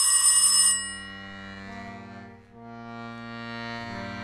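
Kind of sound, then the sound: household object, telephone ringing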